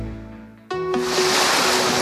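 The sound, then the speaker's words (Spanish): A low, steady hum gives way to a sudden swell of sea waves, a loud, hissing wash of surf that holds steady while a faint sustained tone lingers underneath. No one speaks. “Suena a mar, a sobremesas sin reloj, a noches que se alargan.”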